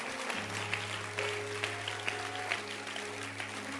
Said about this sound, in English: So as you clap your hands, you may also be seated in the presence of the Lord.